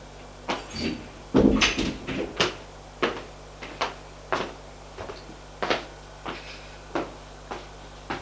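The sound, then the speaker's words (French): The door to the director's office at the Quai des Orfèvres being opened and shut as someone enters, with a quick series of wooden clunks and latch clicks spread fairly evenly over several seconds, with no voices. “Il entre.”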